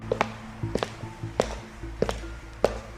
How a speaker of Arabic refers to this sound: مفيش حاجة ممكن نكسر بيها الباب ده؟ انا هحاول اكسره بالكرسي اهو.